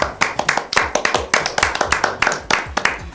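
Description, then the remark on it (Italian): Steady applause from a small group, sharp overlapping hand claps in a quick, fairly even rhythm, loud and bright, carrying on throughout without any speech. “E quindi applauso.”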